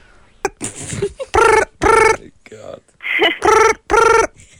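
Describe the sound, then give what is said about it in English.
A voice mimics a telephone ringing with two pairs of loud, sustained tonal 'ring-ring' bursts separated by a short pause, with some brief vocal noises between them. “I'll do the sound of the phone, you do the pick up.”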